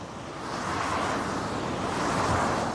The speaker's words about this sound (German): Die Lindenstraße in Itzehoe, eine vielbefahrene Route im Norden der schleswig-holsteinischen Stadt, über die der Verkehr in Richtung Autobahn rauscht. Darunter auch viele Dieselfahrzeuge, die Stickoxid und andere Abgase in die Luft blasen.